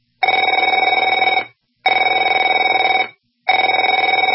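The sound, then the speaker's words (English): A telephone rings three times in steady bursts, each about a second long with brief silent gaps between them, a bright, buzzing electronic trill with no talking. “Afraid to answer it?”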